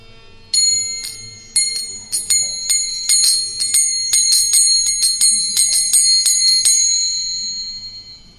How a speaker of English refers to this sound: She was dressed in blue garments and decorated with anklets and ankle bells that tinkled sweetly.